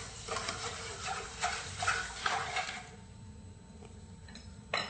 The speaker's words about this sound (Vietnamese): Em cho nửa ký đường cát vàng và một cái son đựng 350g nước lọc. Quậy đều.